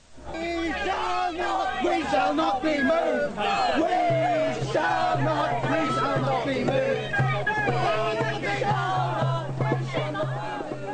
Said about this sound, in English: Well, and they were cheering as she was led away.